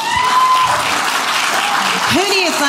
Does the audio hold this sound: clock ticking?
no